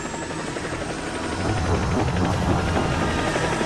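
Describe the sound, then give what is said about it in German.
A helicopter taking passengers off a ship runs, its rotor chopping in a steady rapid pulse over a dense engine roar that swells slightly louder partway through and stays loud throughout. “Sie bringen so viele Leute, wie es geht, in diesen Helikopter, sofort!”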